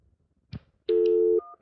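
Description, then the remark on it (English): A telephone disconnect tone after a dropped call: a soft click, then a loud, steady electronic hum lasting about half a second, a brief higher beep, and the tone starting again. “Your call is disconnected. To make any further calls, please disconnect and dial.”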